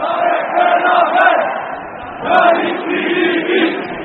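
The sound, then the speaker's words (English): A crowd of demonstrators, estimated by police at 40,000, chants in the streets of central Istanbul in anger at a court verdict over the murder of Armenian journalist Hrant Dink; a dense roar of many voices rising and falling in rhythmic swells, loud and sustained throughout. “There haven't been these sorts of numbers on the streets of central Istanbul since Hrant Dink's funeral 5 years ago.”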